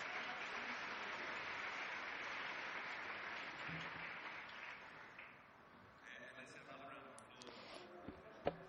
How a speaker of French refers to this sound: Et maintenant, je voudrais à nouveau vous demander d'applaudir ce groupe de danse que nous venons de voir.